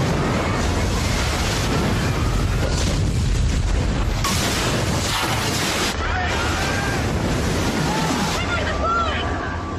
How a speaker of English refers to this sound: Scientists tell us that the giant tsunami wave that devastated Southeast Asia in 2004 wasn't as big as we usually imagine. It's not that they got hit by a 20-foot tall wave, as depicted here in the 2012 movie The Impossible.